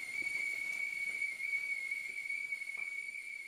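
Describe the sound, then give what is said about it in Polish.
A kettle whistles on boiling water, a single steady high-pitched tone held unbroken for several seconds, with a soft hiss of steam underneath. “Przepraszam, wyłączę wodę.”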